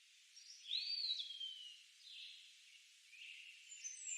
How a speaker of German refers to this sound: Die Vögel zwitscherten fröhliche Melodien.